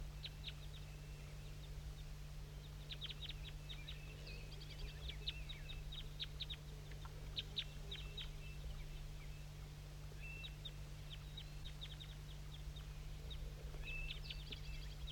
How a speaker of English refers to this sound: And there's some wild birds I'm going to point to that are down still in that oak tree. Little guys.